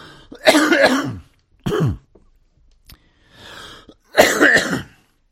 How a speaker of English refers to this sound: Well, I'll tell you, if you guys can put up with me coughing through the program, I can put up coughing to do the program.